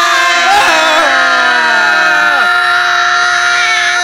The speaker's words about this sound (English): Whenever you hear the secret word, make sure you scream real loud.